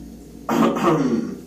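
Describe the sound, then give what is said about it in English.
A single raspy cough, given as a signal, bursts out suddenly and rasps on for about a second before fading, with no talking around it. “To cough again if that's a sign.”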